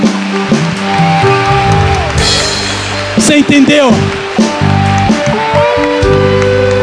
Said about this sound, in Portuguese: Vamos aplaudir o Senhor mais uma vez.